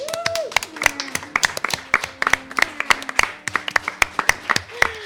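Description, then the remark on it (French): A small audience applauds the players after a little game, clapping in brisk, uneven bursts of sharp hand slaps for about five seconds, with a brief high vocal whoop at the start and again near the end. “qu'on peut applaudir bien fort parce qu'elle est trop mignonne”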